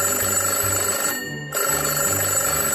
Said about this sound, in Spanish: ¡El teléfono!